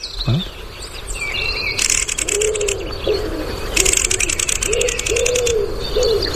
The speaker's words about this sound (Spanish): Hay una torcaz de fondo. Sí.